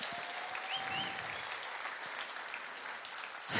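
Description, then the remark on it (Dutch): An audience at a church audience gathering in the Netherlands claps steadily for the volunteers who handle the sound, music, band and banners. The applause is a dense wash of many hands at an even level throughout, swelling slightly louder at the very end. “Zullen we iedereen eens even goed applaus geven ervoor?”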